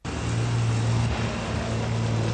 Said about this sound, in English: Armoured cars. Not in Vietnam or the Middle East, but in the United Kingdom.